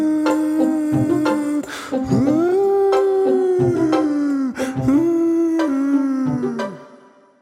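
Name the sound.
dog howling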